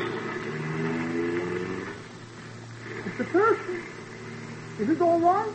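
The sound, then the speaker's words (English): A car engine revs up and pulls away, its rising whine filling the first couple of seconds before fading. Short vocal exclamations break in afterward. “Car took off and Pancho disappeared into the underbrush.”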